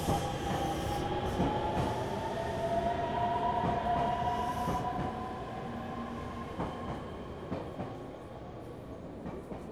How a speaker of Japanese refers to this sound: ほんま、この時間の電車は混み込みやな。ぎゅうぎゅうのすし詰めでかなわんわ。